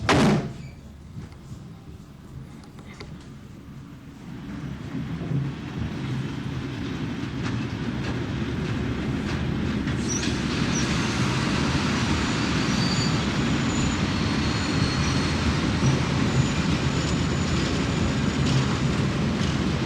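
A train rumbles along the tracks, starting with a clunk and building into a steady, loud rolling drone with faint rhythmic clatter and occasional high squeals from the wheels.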